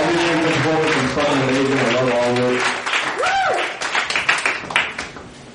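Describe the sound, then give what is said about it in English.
A crowd applauds the performers of the night with dense clapping, joined at first by sustained cheering voices and a rising-falling whistle or whoop before the clapping thins into scattered claps. “Hey, all, before we get started here, can we give another round of applause to all the performers, please?”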